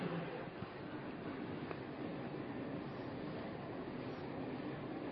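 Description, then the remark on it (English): A train rumbles past in a steady, continuous roar of rail noise, fairly loud and unchanging throughout, with no voices over it. “Now the trains go by.”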